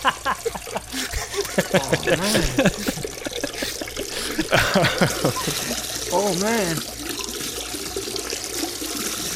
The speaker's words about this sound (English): … was just firing two streams of hot piss into the side of the cave. I didn't hear anything. It was very loud.